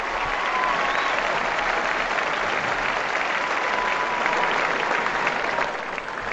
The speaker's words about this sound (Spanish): Volvemos a cantar victoria bajo el nombre de don Rafael Nadal Parera en la Félix Satrier y en Roland Garros. 1 hora y 57 minutos de partido. 6-2, 6-1, 6-3. Y esta es la ovación que le dedica, como siempre, como tantas otras veces, la Félix Satrier.